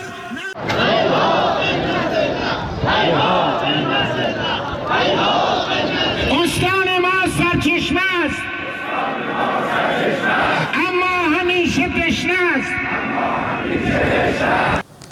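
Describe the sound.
Hundreds of citizens in the city of Saman, Chaharmahal and Bakhtiari province, Iran, chant loudly in unison on a Tuesday in protest against Zayandeh Rud water transfer plans, voices rising and falling in repeated rhythmic slogans with shouts overlapping, continuous throughout.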